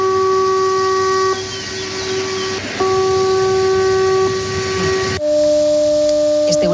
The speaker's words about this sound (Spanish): Se testan esas señales acústicas, esas sirenas, que avisan de un fallo estructural de un embalse, lo que decíais, sobrecarga, erosión, un fallo humano, un sonido tal que así.